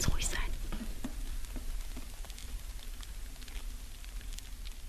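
Live mealworm larvae eat through styrofoam beads held between two thin layers of chiffon fabric in a garment, making a dense, soft crackling and rustling, like countless tiny clicks and scrapes, that continues steadily throughout, with no voices.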